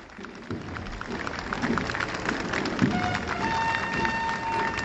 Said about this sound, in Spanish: Y ahora mismo están pasando por delante de nuestros micrófonos, así que aquí se escucha más fuerte también estos aplausos.